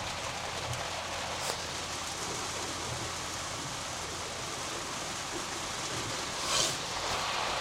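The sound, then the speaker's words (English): Heavy rain pours steadily onto a car being driven, a dense, continuous hiss of drops drumming the roof and glass, with a brief brighter swish near the end. “All right, so we got a pretty good little downpour here that is probably gonna make the wipers go to max here in a second.”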